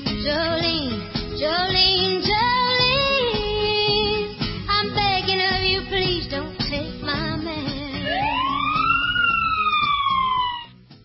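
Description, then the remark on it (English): A police siren wails loudly and continuously, its pitch sweeping up and down in repeated cycles, with dense harmonic layers and a rising wail near the end before it cuts off. “There's those sirens again.”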